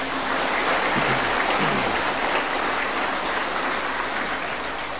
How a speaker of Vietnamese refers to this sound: Thầy xin tán thán một tràng pháo tay thật lớn.